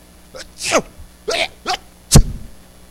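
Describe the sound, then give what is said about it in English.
A male preacher imitates sneezing, giving a quick series of about four or five sharp, breathy 'achoo' bursts, the last one the loudest and most explosive, with short pauses between them, acting out the Bible passage where the boy sneezed. “And the Bible says, the boy sneezed.”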